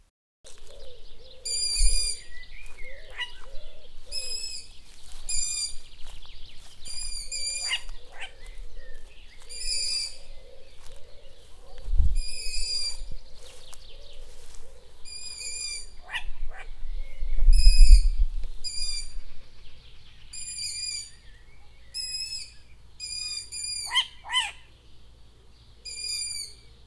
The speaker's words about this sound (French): voici les sons de notre rencontre surprise avec une famille de hiboux, moyen duc, qui avait élu domicile dans les arbres de la ferme